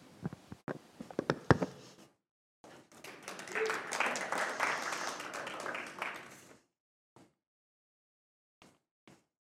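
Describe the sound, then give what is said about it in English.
An audience breaks into applause, a dense wash of clapping that swells for several seconds and then fades, ending with a few scattered late claps. Brief voices are heard before it starts. “I was going to say, let's give them a round of applause, but you beat me to it.”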